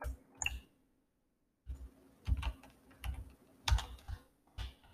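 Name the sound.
computer keyboard typing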